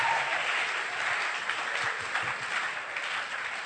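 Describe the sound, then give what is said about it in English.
An audience in a church clapping their hands to give God the glory, a dense, steady wash of many overlapping claps at even loudness throughout, with no voices on top. “Somebody clap your hands, give God the glory in the house of God.”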